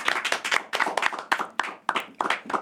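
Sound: audience applause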